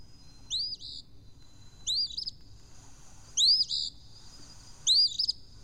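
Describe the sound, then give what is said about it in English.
Four short, high bird calls spaced about every second and a half, each a quick rising-then-falling whistling chirp, heard alone over a faint low rumble; a pair of eastern phoebes calling repeatedly outside a bedroom window in early spring. “Excitedly, I rushed to the window to welcome the special guests who had made their presence known, a pair of eastern phoebes. They're cheerful little birds whose return is a rhythm as assured as that of the seasons.”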